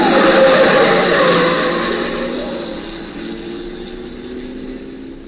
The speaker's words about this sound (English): The lights are dim, the corner's sharp, a car's coming fast, it turns, you don't see it.